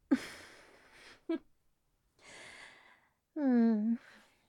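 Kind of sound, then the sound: human body sound, yawn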